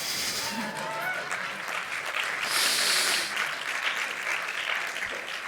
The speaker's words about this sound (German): Möchte jemand klatschen?